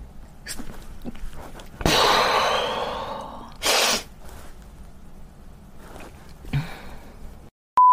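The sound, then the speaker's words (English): One loud human sneeze bursts out with a breathy hiss that fades over a second, followed shortly by a brief sharp exhale amid faint breathing. “I'm gonna sneeze.”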